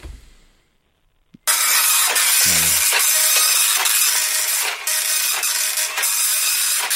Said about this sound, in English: It's quite a slow printer as well. Slow printer. Very 90s sounding printer, that one. It's the only one we've got.